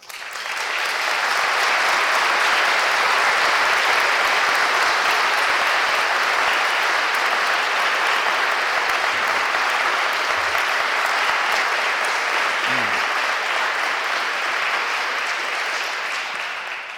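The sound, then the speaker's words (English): Sustained, loud applause from a large audience in a parish, welcoming a young man, a dense wash of clapping that holds steady for the full seventeen seconds with no voices breaking through. “Second thing is, young man, look at all these people around you who welcome you, who just applauded you wherever you are, who love you, who see in you God, who understand you, right?”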